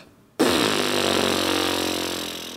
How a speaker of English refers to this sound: The vocal folds start vibrating like this.